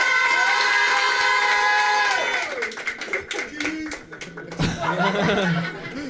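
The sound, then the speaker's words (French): A crowd bursts into loud cheering and whoops as a person comes on, then scattered clapping and laughter follow, the applause thinning out and picking back up near the end. “et puis on applaudit.”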